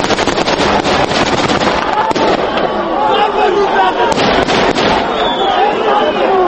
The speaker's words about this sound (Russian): Десятки бойцов одновременно начали стрельбу в воздух.